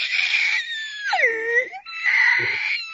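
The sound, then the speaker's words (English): A person imitates a shrill scream by sucking in air, going as high-pitched as they can rather than screaming outward: a sustained, piercing high-pitched squeal that wavers and dips briefly in the middle, then rises again for about three seconds, loud and with no other talking. “I just go as high-pitched as I can and inhale air.”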